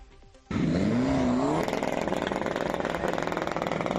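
After a short quiet moment, car engines suddenly roar to life and rev hard, the pitch climbing, then settle into a loud, rough, continuous engine drone, the cars pouring thick black smoke from their exhaust pipes.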